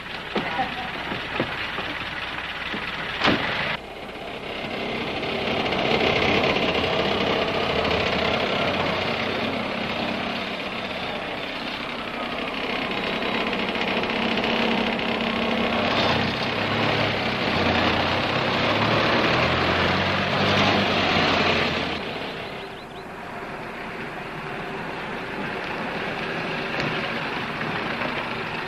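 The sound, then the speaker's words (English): A car engine, started up as the car is taken around the block, runs throughout, a loud steady rumbling drone whose pitch climbs and wavers midway as it revs, then eases off and settles back down toward the end. “I just saw Chip and Wayne driving down the street in Chip's car.”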